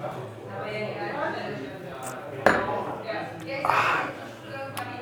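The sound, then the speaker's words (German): Glasses clink in a toast: a sharp glassy clink rings out midway, followed by a couple of lighter taps, over murmuring voices and background chatter. “Prost. Auf dich.”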